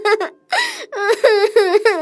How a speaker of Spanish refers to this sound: Seguí llorando y te vas a hacer pegar otra vez.